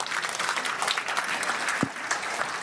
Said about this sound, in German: Ich habe so ein cooles Team. Radio Bochum ist so toll. Einmal Applaus!